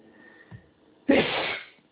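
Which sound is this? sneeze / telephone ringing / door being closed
sneeze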